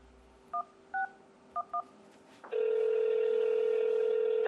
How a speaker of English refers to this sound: I check out CoinMap, a website that says it shows every business in the world that takes Bitcoin. For the Philly area, there's a list of only around 20. I pick up the phone and start calling them.